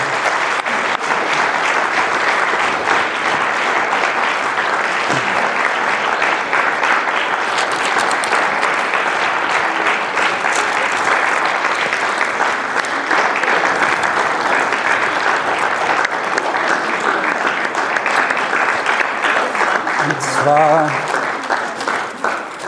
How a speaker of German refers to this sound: Das war, ich bin extra langsam gegangen, damit ihr einen schönen langen Applaus bekommt.